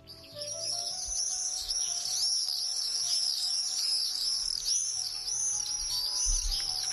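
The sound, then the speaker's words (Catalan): Common swifts, migratory birds back around May from southern Africa and the tropics to nest on rooftops in the city, calling in a continuous chorus of shrill, screaming trills, many birds overlapping at once, fairly loud and steady with no speech. “Sabies que ja han arribat els falciots?”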